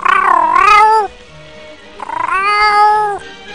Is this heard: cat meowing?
yes